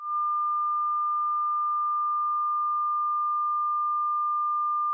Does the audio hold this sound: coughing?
no